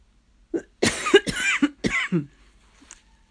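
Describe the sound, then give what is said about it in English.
A loud burst of several harsh coughs in quick succession, tailing off into a quieter throaty sound, with no talking. “Excuse me, I'm just going to cough.”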